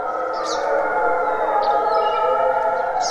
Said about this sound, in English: This is the sound of wolves in Algonquin Park in Ontario, Canada.